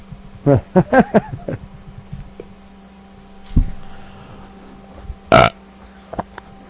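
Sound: burp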